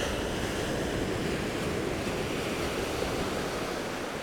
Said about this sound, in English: There's loads of them. Jaggedy. And the water is clear. The waves seem to pop out from nowhere, about 15 feet away.